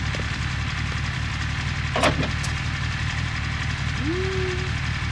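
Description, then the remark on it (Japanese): The V12 engine of a modified GTX car idles steadily throughout with a deep, continuous, fairly loud rumble, broken by a brief knock midway and a short rising tone near the end. “エンジンはケルン車の V12 か。”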